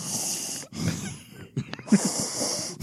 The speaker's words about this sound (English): Stop breathing out of your mouth.